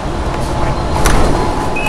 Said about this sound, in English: Time to get on the metro. Sounds of the metro in Madrid. Here we are. It's just arrived in the station. Open the door.